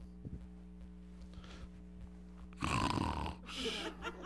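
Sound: person imitating snoring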